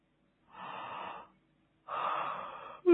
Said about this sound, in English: Yawning is a great way to let off tension.